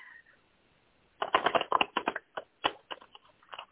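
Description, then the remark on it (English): A deck of cards being shuffled a few times before cards are drawn, a quick burst of crisp riffling followed by several short flicks and taps as the cards settle, with no voices. “Just going to shuffle a few times.”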